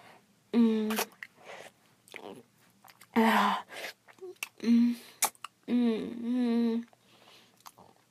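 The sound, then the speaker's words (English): Wet slurping and sucking mouth sounds of oral sex on a penis come in several loud bursts, mixed with short voiced hums and smacking clicks, with quiet pauses between them. “Your friend is slurping and sucking on your cock head, begging for your jizz.”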